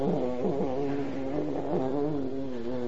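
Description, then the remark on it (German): A voice hums a sustained, wavering buzz imitating the king of the bees flying between Radha and Krishna, rising and dipping in pitch for about three seconds, steady with no words spoken. “Als nun der König der Biene zwischen Radha und Krishna flog, machte das da ein Echo.”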